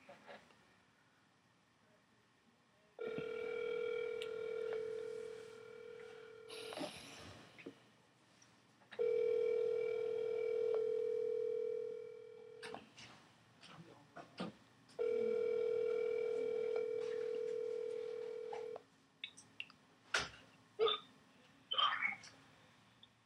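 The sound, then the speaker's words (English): A phone ringback tone from an outgoing call to a man repeats three times, each steady buzzing ring lasting about four seconds with short pauses between, followed by clicks and a bit of faint handling noise as the call connects. “See if he answers the phone.”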